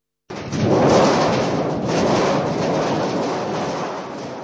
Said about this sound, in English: Sounds in the theatre, like the typical creation of a storm on a large sheet of metal, are usually done by the newest members, who are in the process of learning the puppeteer's craft.